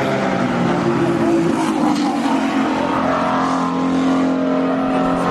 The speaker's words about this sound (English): Like, that was five cars came in a bunch, and now they make their way up the hill and across that, that top corner where they sometimes overtake each other.